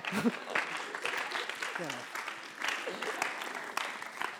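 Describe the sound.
Steady, dense audience applause fills the whole stretch, a continuous crackle of many hands clapping with a few voices and shouts rising through it.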